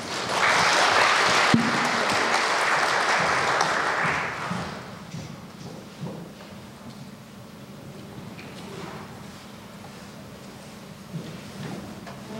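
A church audience claps to welcome a new seminary student who has come to serve for a year, a dense burst of applause that fades after about four seconds, leaving quiet shuffling and faint background noise with a few scattered bumps.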